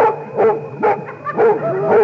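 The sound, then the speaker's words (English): A dog barks loudly, a quick series of about four sharp, harmonic barks in steady succession with no voices. “But surely we can't escape from the dog.”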